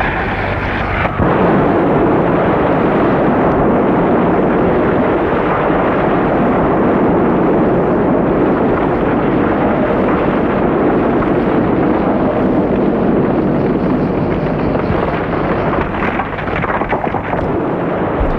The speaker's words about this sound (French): Énorme explosion.